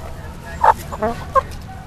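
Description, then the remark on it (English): Chickens cluck in short, separate bursts, three quick calls spread over a couple of seconds against a low background rumble, moderately loud; four chickens and two roosters kept at Castlemont High School in East Oakland, between the campus, parking lot and football field. “Where we have four chickens and two roosters.”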